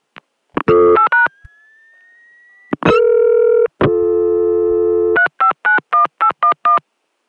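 A touch-tone phone number is dialed in a quick run of beeps, followed by a rising tone and steady line tones, then another rapid string of about seven dialing tones. No voices.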